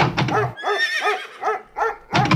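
A pony whinnies loudly, a shrill neigh breaking into several quavering, wavering pulses that trail off, framed by brief bursts of rough, breathy noise at the start and end.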